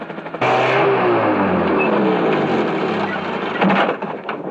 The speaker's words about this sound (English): Chopper. Incoming chopper. No wounded. Repeat, no wounded. Just mail for a few luckies.